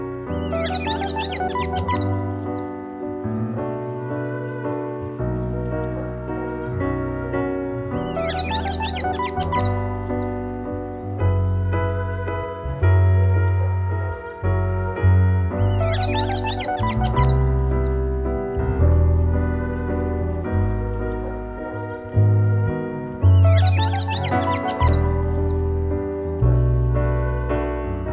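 Bursts of bird tweeting return roughly every eight seconds over a steady, sustained musical backing, the chirps bright and prominent, woven into the track as a recurring motif. No one speaks.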